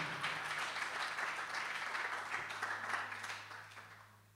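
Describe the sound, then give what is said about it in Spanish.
A crowd applauds steadily, a dense wash of many hands clapping for several seconds before easing off slightly at the end, with a low steady hum underneath. “Así tienen que morir los músicos con un aplauso.”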